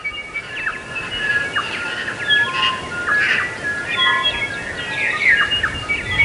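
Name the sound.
new Zealand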